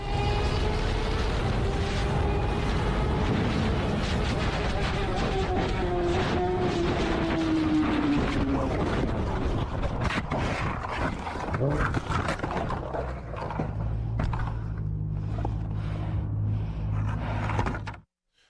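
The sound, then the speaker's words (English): A woman crashing a motorcycle at 125 miles per hour after the bike starts shimmying and vibrating: a loud roar of wind and engine whose pitch sinks, then a long stretch of scraping, tumbling clatter with repeated sharp knocks before it abruptly stops. “This is her crashing at 125 miles per hour on a motorcycle.”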